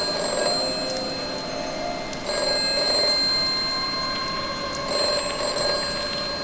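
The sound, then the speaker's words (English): An old-style telephone rings three times in a Doctor Who audio drama from Big Finish Productions, each bright, trilling burst lasting about a second with a steady pause between, clear with no voices. “Don't answer that phone.”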